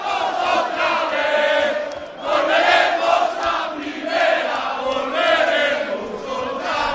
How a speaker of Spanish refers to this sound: Han vuelto, ¿eh? Es el sonido en directo desde Pamplona. Es precioso este cántico. Y son los jugadores en un escenario cantándolo delante de la gente, supongo, también, ¿no?